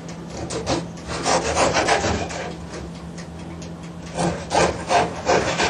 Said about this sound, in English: And you cut them into half. The bread, eh?